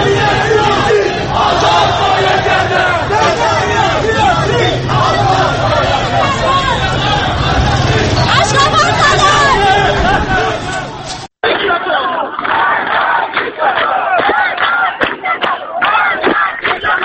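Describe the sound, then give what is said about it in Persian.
A large crowd of thousands of protesters chants and shouts together in the streets of Tehran, a loud, dense roar of many voices that cuts abruptly at one point and resumes with slightly thinner, rhythmic chanting. “با این حال تجمعات و تظاهرات پراکنده با حضور هزاران معترض در نقاط مختلف تهران رخ داد.”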